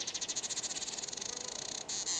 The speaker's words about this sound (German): Die Sonne scheint. Man hört schon die Vögel.